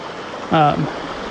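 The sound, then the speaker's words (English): A babbling brook in a forest gives off a steady, even wash of rushing water throughout, broken briefly midway by a short voiced utterance from a person. “I am in the forest by a babbling brook. Those are not sound effects.”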